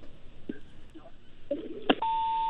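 A sharp click on a phone line, then a steady, clear electronic tone starts and holds to the end, the beep of a listener's call to a radio call-in programme being cut off, over faint line noise.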